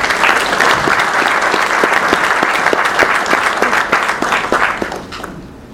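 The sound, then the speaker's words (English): An audience at an American Athletic Conference event applauds commissioner Mike Oresko in a dense, loud burst of many overlapping hand claps, sustained for several seconds before tapering off at the end. “Round of applause, Mike Oresko.”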